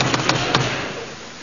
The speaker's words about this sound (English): Knock on the door.